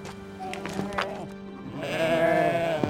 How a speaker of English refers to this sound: Then those sheep began to cry out on account of their young and to make complaint to their lord.